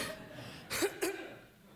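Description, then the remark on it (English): Two quick, breathy coughs in close succession, with nothing else but faint background noise before and after. “I'm going to cough and then we're going to invite the Spirit again.”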